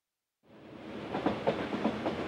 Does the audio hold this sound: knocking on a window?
no